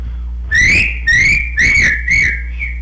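A person whistles a loud, clear call to bring horses in from the pasture, in four quick repeated bursts, each a sustained high note with a slight rise and fall in pitch, with no talking.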